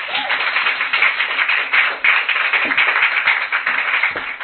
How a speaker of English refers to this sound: So please give a round of applause